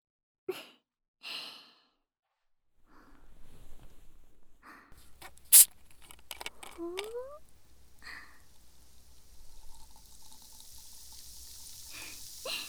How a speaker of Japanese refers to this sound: ガラスのグラスに炭酸水をたっぷり注ぐ音。私個人的にはこれが世界一気持ちいい音だと思ってるんだけど